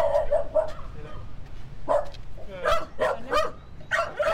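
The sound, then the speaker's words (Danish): Two small dogs bark at a small house in Karise, South Zealand, Denmark, in quick, high-pitched bursts, a cluster of yaps early on, then a single bark, followed by a rapid run of sharp barks. “Han bor med to hunde i et lille hus i Karise på Sydsjælland. De kan godt sige lidt, selvom de ikke er så store.”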